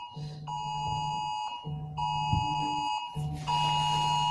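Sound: alarm system beeping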